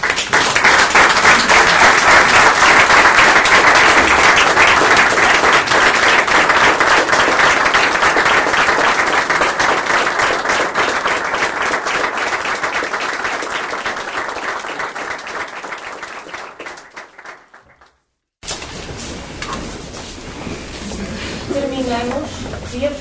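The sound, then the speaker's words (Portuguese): A crowd breaks into sustained, dense applause for a priest's diamond jubilee of priesthood; it holds steady for about fifteen seconds, then tapers off; after a short pause, a voice starts speaking. “pela sua dedicação ao serviço de toda a comunidade vareira, em especial da paróquia de São Cristóvão, desde 7 de dezembro de 1975, merece uma grande salva de palmas pelas suas bodas de diamante sacerdotais,”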